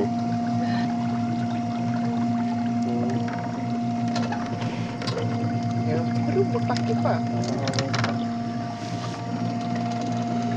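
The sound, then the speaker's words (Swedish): A boat motor runs slowly and steadily, its low drone and tonal hum continuous throughout, with faint splashes and creaks riding over the engine. “Gå lite sakta med den här motorn, men det är tyst, man kan ju prata grejer.”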